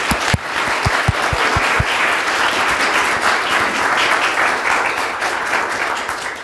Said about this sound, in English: So first of all, a round of applause for everyone, which you already did, thank you. But another one.